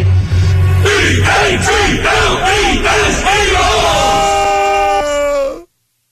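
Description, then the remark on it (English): A loud crowd chants in a steady, rapid rhythm of repeated shouts, then the voices swell into one long, sustained yell that cuts off abruptly. “We love it. Chant.”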